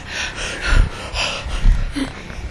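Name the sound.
heavy gasping breaths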